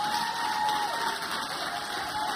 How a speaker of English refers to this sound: Give her a hand clap as she comes. Hallelujah.